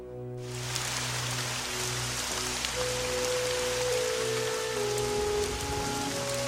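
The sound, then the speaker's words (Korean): A heavy rain shower pours down steadily late at night, a dense, continuous hiss of drops striking surfaces, with a low hum running underneath and no voices. “밤이 깊었고 소나기가 쏟아졌고 결국 그녀는 나타나지 않았다.”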